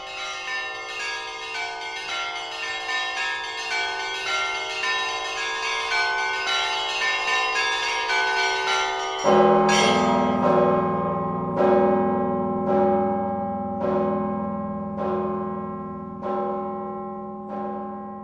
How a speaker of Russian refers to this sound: Цикл передач священника Павла Радина о колоколах и колокольном звоне.